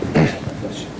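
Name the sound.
sneeze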